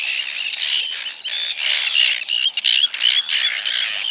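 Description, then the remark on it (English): A noisy chorus of high, raspy squawks and squeals from tern nestlings as both parents deliver food, calling continuously and overlapping with brief pauses, fairly loud with no voices. “Later, when the young hatch, both parents busily deliver food to the nestlings.”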